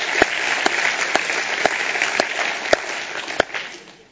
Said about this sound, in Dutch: Mag ik even gaan staan? Mag ik even klappen? Yes, prachtig.